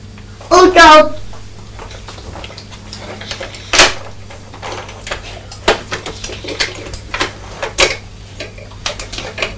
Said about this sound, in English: Are you listening to the sound of the juice in the beaker? It's making a squeaky noise, isn't it? It sounds like there's some air trapped.